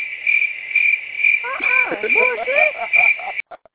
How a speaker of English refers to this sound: I got to give you the crickets on this one, man. I got to give you the crickets.